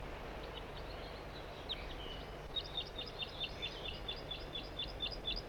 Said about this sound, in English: Those birds are still singing here. Way up in the top of a dead tree. It's possible that all these birds are juveniles.